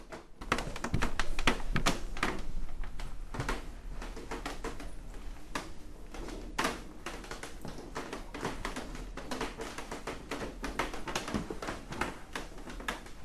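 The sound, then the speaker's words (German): Wooden school desks creak and knock, a dense, irregular clatter of taps and thumps that continues steadily, with no one speaking. “So knarzen unsere Schulbänke.”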